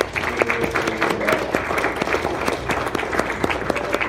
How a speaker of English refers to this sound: And let's give a round of applause to everyone who auditioned as well.